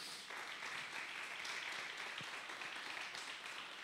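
A crowd applauds the Lord steadily, a dense, even wash of many hands clapping that holds at a constant level for the whole few seconds, with no voices rising above it.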